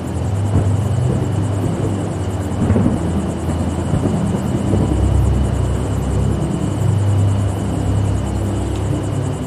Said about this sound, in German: Von weitem ist ein leiser Donner zu hören. Noch ist das Gewitter fern, aber lang wird es nicht mehr dauern, bis es uns erreicht.